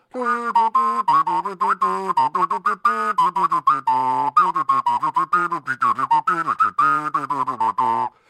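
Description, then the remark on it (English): A voice hums the lively, bouncing tune Lilliburlero in imitation of an ocarina, short rhythmic notes rising and falling steadily for several seconds with no other sound. “You were playing Hum Ocarina. Lily Bolero.”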